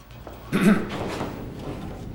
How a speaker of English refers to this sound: He politely coughs at them.